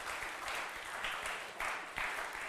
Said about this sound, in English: You don't have to applaud.